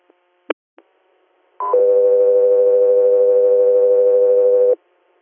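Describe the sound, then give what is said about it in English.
A few faint clicks, then a loud electronic alert: a brief higher tone followed by a long, steady lower tone held for about three seconds, with no voices. “Scout 3 Air, stand by for tones.”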